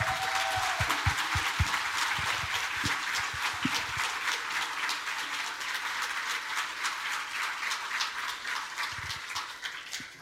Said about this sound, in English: And you guys deserve one major round of applause for all that you do for us and for supporting our product.